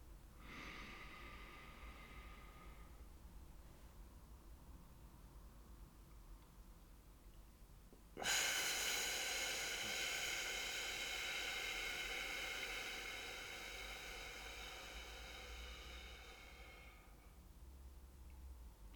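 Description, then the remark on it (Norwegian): A deep breath in, held for a few seconds of silence, then a long, steady hissing exhale through the lips making an F sound lasting several seconds, slowly fading at the end, done as a calming breathing exercise. “Dyp innpust, hold noen sekunder. Og så lager du lyden F på utpust.”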